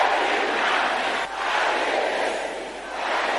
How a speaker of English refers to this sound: Can I hear you shouting this loudly? Every madness carried against me by the enemy. Can I hear you shouting that loud?